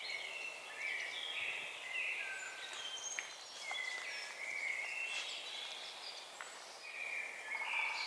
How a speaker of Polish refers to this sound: Chyba że rano kogoś budzi kos ze swoim fletowym, pięknym podśpiewywaniem. Zwrotka, cisza, na końcu tego fletu u doświadczonego kosa jest jeszcze taki szczebiot charakterystyczny, u młodych tego nie usłyszymy.